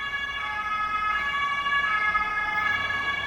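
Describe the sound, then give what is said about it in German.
An ambulance siren wails steadily outside, its tones holding loud and continuous over low traffic rumble, with no one speaking. “Wir haben hier Krankenwagen und Polizei und dann ist hier hinten die... Feuerwache auch noch.”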